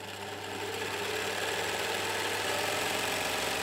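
The seamstresses' and tailors' sewing machines rattle in the next room of the Salzburg Festival costume workshop, a steady, dense mechanical whirring and clatter that holds at an even level throughout, with no voices.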